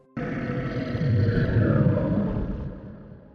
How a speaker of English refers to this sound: I almost jumped out of my skin when the giant hand finally released its trophy to the ground, before echoing its stomach-churning howl across the still forest.